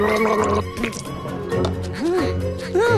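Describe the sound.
A bee gargles honey mouthwash in a bubbly, voiced warble that runs for about three seconds, its pitch swooping up and down over steady background music.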